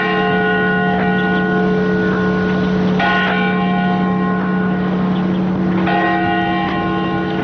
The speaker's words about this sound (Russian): Бьют часы Невьянской башни. Она падающая, совсем как Пизанская, только угол наклона меньше.